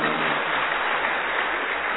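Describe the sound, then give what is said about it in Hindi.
Steady applause from a crowd on the day of Dussehra, many hands clapping continuously at an even loudness for the whole stretch, a dense crackling wash with no voices standing out. “कैसे खुश हो, ताली बजाओ ना।”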